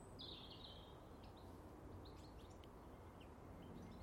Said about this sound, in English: Yeah, they were the house sparrows. There were three right in the top sprig of that great big landed conifer